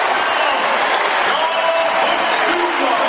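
A loud basketball arena crowd cheers and applauds after an Ole Miss three-pointer on a fast break, a dense, sustained roar that fills the space without pause, with scattered voices shouting within the noise.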